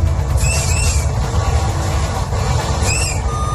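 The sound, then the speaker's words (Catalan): A train whistle sounds twice, two short high-pitched blasts about two seconds apart, over a steady low rumble of the moving train, as the driver of an R1 Maresme line train crosses the new bridge over the Tordera between Blanes and Malgrat early in the morning. No one speaks. “El maquinista ha fet sonar el xiulet quan a primera hora d'aquest matí el tren de la R1, la línia del Maresme, ha creuat el nou pont sobre la Tordera.”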